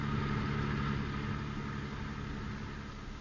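A car engine idles in busy traffic with a steady low rumble and faint hum, continuous for the whole few seconds, with a broad wash of road noise behind it and no voices.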